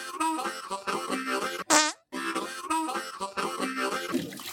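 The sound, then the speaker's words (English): A short, loud jingle built from buzzy fart sound effects, pitched into a bouncy melody, with a brief rising squeal and a split-second gap near the middle before the tune resumes. “Actually, it's more of a fart story, but that's the only chance we had to play our theme this episode.”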